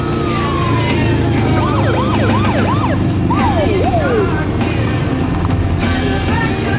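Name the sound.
police car siren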